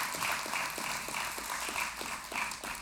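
An audience claps their hands together in a steady, even rhythm, roughly three or four claps a second, over a continuous wash of crowd noise.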